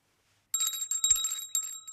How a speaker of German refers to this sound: Sie haben geläutet, Sir.